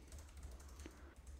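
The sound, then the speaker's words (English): Steady, rapid typing on a computer keyboard with quick overlapping clicks and taps, fairly quiet, with no voices. “is typing something.”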